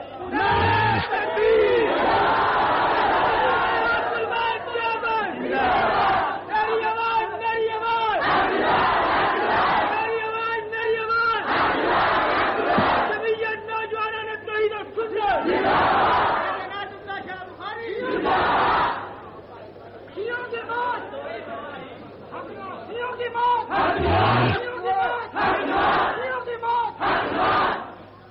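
A large crowd shouts slogans in loud, rhythmic bursts, voices rising together in repeated chant-like waves with brief dips between them, sustained for the whole stretch.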